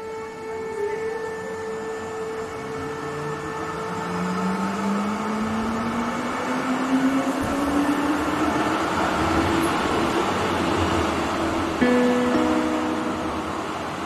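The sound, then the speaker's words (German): An electric S-Bahn commuter train heading toward Stadelhofen pulls away, its motor whine climbing steadily in pitch over a continuous rumble of wheels and car noise, with no one talking. “Unser Weg führt uns jetzt weiter zur S-Bahn, die Richtung Stadelhofen fährt.”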